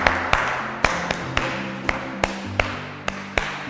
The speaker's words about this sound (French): Applaudissons pour notre frère.